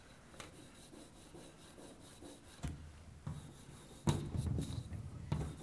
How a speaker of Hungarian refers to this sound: Például úgy néz ki a dolog, hogy itt van egy átlátszatlan ernyő, amiben lyukat fúrunk, és abba tesszük bele a lencs, abba csavarjuk bele a lencsét. Itt is.